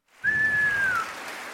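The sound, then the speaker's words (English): A crowd breaks into steady applause, and a single loud, sustained whistle cuts through for most of a second, gliding slightly downward before the clapping continues more softly. “Giving y'all a round of applause.”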